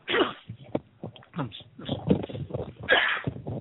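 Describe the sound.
A single sharp sneeze bursts out amid ongoing conversation, loud and brief against the surrounding speech.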